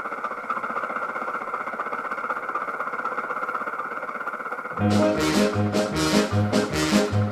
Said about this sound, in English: And on this car he had a motor, E-I-E-I-O. With a rattle here and a rattle there, here a rattle, there a rattle, everywhere a rattle, rattle.